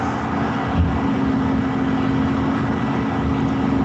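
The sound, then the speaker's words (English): A truck driving past an apartment, its engine rumbling steadily, a low droning hum with broad road noise that holds at an even loudness throughout, with no voices. “There was a truck driving by your apartment. And we can hear it.”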